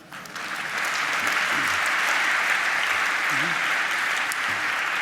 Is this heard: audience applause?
yes